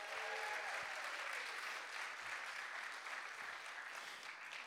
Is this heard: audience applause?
yes